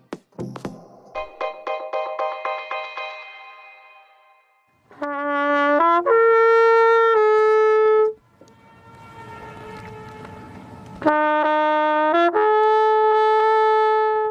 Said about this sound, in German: Na, haben Sie erkannt, wo Sie diese Trompete und vor allem dieses Echo hören können oder schon mal gehört haben könnten? Genau, am Königssee, dem einzigen fjordartigen See der Alpen mit smaragdgrünem Wasser, gelegen im Süden von Bayern, nahe Salzburg